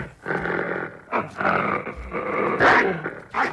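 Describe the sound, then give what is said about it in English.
A wolf in a train car leaps out and bares its teeth, growling and snarling: a loud, rough rumble rising into several harsh bursts over a few seconds, with no voices present. “The wolf leaps out and bares its teeth.”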